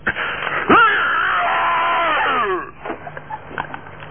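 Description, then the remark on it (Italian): A person lets out a long, loud anguished wail, voice rising sharply then sliding down over about two seconds, imitating a cry of suffering, followed by faint shuffling and quiet background noise. “Fammi sentire uno strillo di quello che soffre.”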